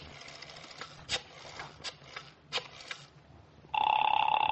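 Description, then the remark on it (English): Several sharp mechanical clicks and rattles, then a steady, loud telephone ring tone comes through the line and continues to the end, heard over the handset with a slightly thin, filtered quality. “Ah, it's ringing this time.”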